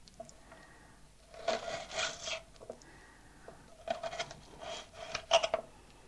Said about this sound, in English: You may feel you want to draw the knife to the side, so you're just slicing the onion nice and slowly. And of course, yes, it is falling to pieces, but that doesn't matter.